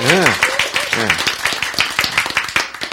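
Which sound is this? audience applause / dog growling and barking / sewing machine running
audience applause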